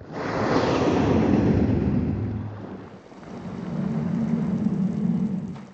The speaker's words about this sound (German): Man kann sehr gut das Wasser hören. Dies ist ein Blauwal, der aus dem Wasser auftaucht.